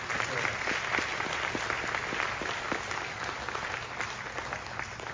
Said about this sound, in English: I just want to give you a hand clap. For that.